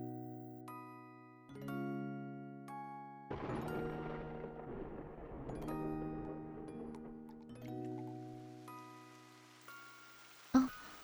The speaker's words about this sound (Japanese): また雨。